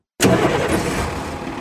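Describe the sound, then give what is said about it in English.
A regular diesel people-mover bus engine idles loudly, a steady low rumble with a gritty clatter that starts abruptly and holds constant without speech. “This is a regular old diesel people mover bus. It's loud, even just idling.”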